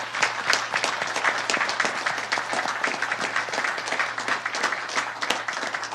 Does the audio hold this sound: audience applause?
yes